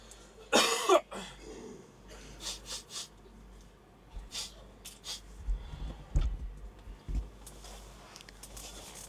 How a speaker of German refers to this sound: Räuspern.